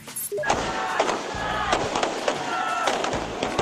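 Firecrackers pop sharply and repeatedly as Sri Lankans in the capital Colombo celebrate the end of the nation's 26-year civil war outdoors, a rapid string of loud cracks over crowd noise and voices.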